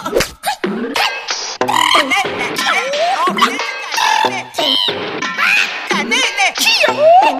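Loud frog croaking in rapid, uneven bursts, with throaty rising and falling calls that run almost without pause for several seconds.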